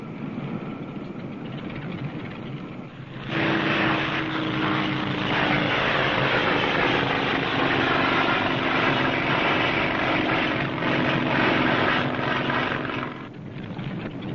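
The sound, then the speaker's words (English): A propeller plane's engine drones steadily and loudly, swelling in after a few seconds of softer rumble, holding a constant buzzing hum with a low tonal whine before easing off near the end, with no voices; the plane flies a woman 300 miles far up north to work. “there can't be many women in the world who fly 300 miles to work and back every day.”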